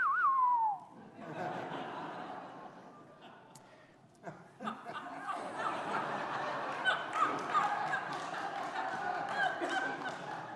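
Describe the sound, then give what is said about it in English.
A person gives a short, sharp whistle that slides downward, like a call to summon someone, followed at once by a room full of people laughing and chattering. “And then we'd hear that whistle.”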